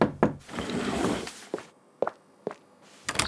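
A series of sharp knocks on a wooden door, about five evenly spaced raps following a brief stretch of shuffling noise, moderately loud, with no voices.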